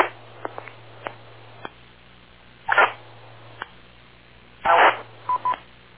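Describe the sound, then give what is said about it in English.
Short bursts of harsh digital data noise from a Motorola radio keying up on 441-100, over a faint steady hum, with scattered clicks and a couple of brief tonal beeps between them. “And someone just went teeing up on 441-100 with a Motorola burst.”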